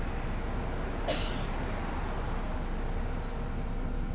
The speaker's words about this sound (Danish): Og nu sidder jeg i bus 5A lige over for hende og udgiver mig for at være en, der ikke ved, hvem hun er. Det er hende, du kan høre hoste her.